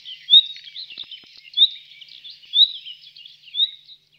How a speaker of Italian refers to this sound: questo qui che stiamo sentendo adesso è proprio il canto classico dell'usignolo.